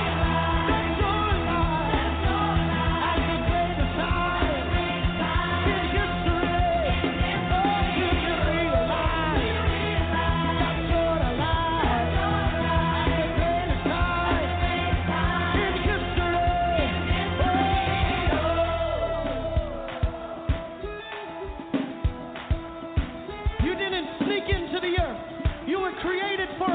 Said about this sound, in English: Somebody scream! Do you realize?